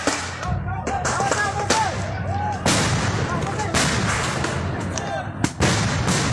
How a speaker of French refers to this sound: La police déboule avec tout son arsenal. Grenades de désencerclement et flashballs résonnent dans la nuit.